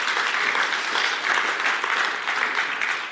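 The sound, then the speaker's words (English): An audience claps steadily for a few seconds, a dense, even wash of many hands with no voices over it, applauding the leadership team. “You can clap if you like.”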